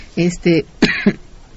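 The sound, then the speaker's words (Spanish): A short series of fairly loud coughs, about four rough bursts in quick succession, the last two sharper and separated by a brief pause, with quiet background afterward. “Yo aprovecho tu tos mientras para decir a los radioescuchas”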